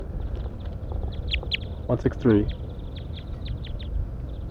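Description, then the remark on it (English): A couple of loud, raspy duck-like quacks burst out mid-clip, harsh and nasal, while thin high chirps repeat steadily in the background over a low, rumbling wash of noise; wild birds, seemingly a female and male pair, up in a pine tree. “These are wild birds now, pointing at the wild birds.”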